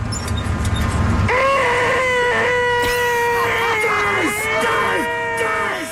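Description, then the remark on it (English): A faulty car sensor lets out a shrill, wavering electronic whine each time the car stops, as at a red light. It starts suddenly after a low rumble and holds for several seconds, its pitch sliding slightly up and down. “Something is off with my sensor, and every time I stop, like at a red light, it's just a very high-pitched, and no matter what I do, I can't get it to stop.”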